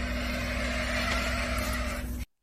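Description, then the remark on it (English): A bush stone curlew in Australia growling at a man through a glass back door: a steady, low, buzzing drone that holds at an even loudness for about two seconds, then cuts off abruptly. No one speaks. “Apparently it's called a bush stone curlew.”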